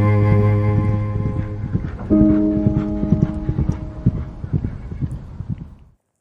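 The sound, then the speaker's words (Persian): A rapid, rhythmic clatter of hooves galloping along, steady, layered over sustained musical tones, fading out at the end. “کورس آخر که تمام می شود، تازه اسب‌هایی توی سرتان شروع می‌کنند به دویدن.”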